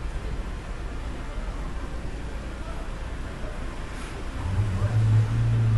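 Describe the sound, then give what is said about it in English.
Steady street traffic rumbles throughout in a seedy part of town, with a car's engine swelling louder toward the end as it passes by, over a constant wash of outdoor city noise. “And the cars that are going by right now, since this is the seedy part of town, you see a lot of black cars with tinted windows, BMWs and Mercedes.”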